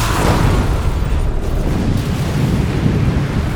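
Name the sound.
explosion sound effect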